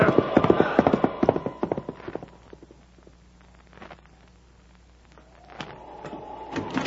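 Horse hooves clip-clop in a quick, steady rhythm during a January sleet storm on the way into Washington, loud at first, then fading to a quiet rumble before the hoofbeats pick up again toward the end.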